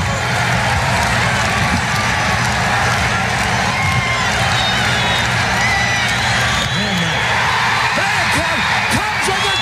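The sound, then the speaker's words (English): A large crowd roars and cheers at a Chicago Cubs ballgame as the Cubs clinch in 1984, with Rick Sutcliffe on the mound: a dense, steady wall of voices with scattered whoops and clapping rising above it for the full length. “Listen to this crowd.”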